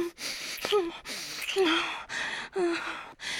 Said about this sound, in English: Even as I whimper into our kiss. As I gasp at your size and your strength.